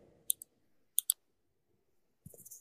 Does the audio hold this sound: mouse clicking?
yes